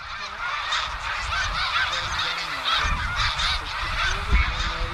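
A large flock of snow geese honks in a dense, continuous chorus as it rises from the ground in cold weather, probably startled by a hawk; overlapping calls fill the air with a low rush of wingbeats and wind beneath, loud throughout.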